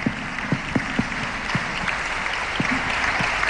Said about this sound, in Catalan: perquè m'agradaria un fort aplaudiment